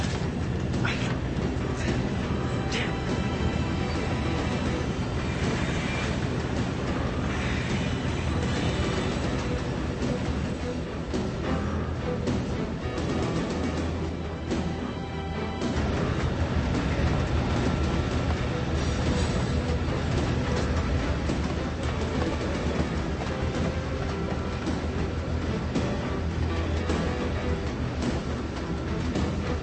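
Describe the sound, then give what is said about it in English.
A train rolls along railroad tracks with a steady, loud rumble and rattle that continues unbroken for the whole stretch, swelling slightly partway through. “Our government is operating a secret railroad. They put something on that train in West Virginia, something living.”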